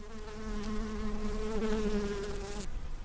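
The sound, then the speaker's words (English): Bees buzz steadily at the Santa Barbara Botanic Garden in early spring wildflower season, a droning hum with slight rises and falls in pitch, continuing for a few seconds before one drifts away. “With the official start of spring right around the corner, even the bees are happy.”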